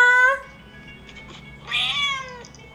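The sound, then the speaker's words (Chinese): A cat named Naicha (Milk Tea) meows twice, a short call followed after a pause by a longer, rising-then-falling meow, both clear with no talking. “对，我就帮他录那个一个 Meow Talk M-E-O-W。”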